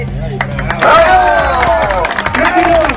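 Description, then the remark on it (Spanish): A crowd applauds with scattered clapping, mixed with loud cheering and raised voices that swell and carry throughout, a lively, noisy gathering. “El aportate sigue aplaudiendo.”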